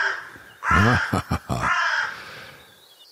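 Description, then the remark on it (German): A crow caws loudly: one long, harsh call, two quick clipped caws, then another drawn-out rasping caw, with no voices present. “Unverkennbar. Krähen, die machen scheinbar das Problem in Garus bei Genf oder auch in anderen Orten.”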